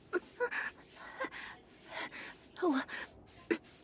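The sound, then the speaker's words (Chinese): Heavy, breathy gasps come in a quick, uneven series of about eight, some with a faint voiced catch, fairly loud, on a subway train, with no talking. “我就是觉得地铁有点慢，喘息的声音稍微大了一点而已。”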